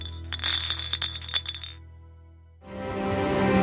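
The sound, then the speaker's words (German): Glasses clink together in a toast, several bright ringing taps in quick succession, fairly loud, followed after a short pause by a swelling wash of steady background noise. “Und darauf kann man doch wirklich anstoßen.”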